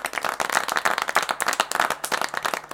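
An audience applauds orchestra musicians, many hands clapping in a dense, steady patter that carries on throughout at a moderate level, with no voices standing out.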